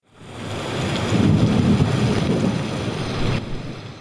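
Strong wind roars steadily over open water, a broad rushing noise with low buffeting gusts, loud throughout with waves faintly beneath.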